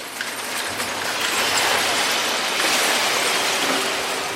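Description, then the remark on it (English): Sanitation trucks at the Sims Municipal Recycling warehouse on a Brooklyn pier in New York City: a steady, loud wash of mechanical rumble and hiss, with scattered metallic clinks and rattles running throughout, and no voices. “These are the trucks and sanitation workers that go to every single household, every single building in the city once a week.”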